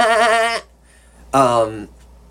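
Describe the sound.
A person imitates a sheep with two loud, wavering 'baa' bleats, separated by a brief pause, with no other talking.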